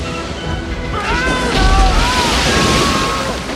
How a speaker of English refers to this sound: A giant wave, taller than a house, crashes against the boat and tosses it up in the air.